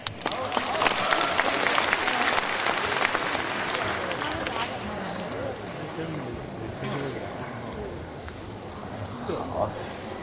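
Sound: audience applause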